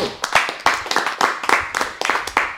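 A short burst of applause, a handful of people clapping in a loose, fairly steady rhythm, with sharp, crisp hand claps that stay loud throughout.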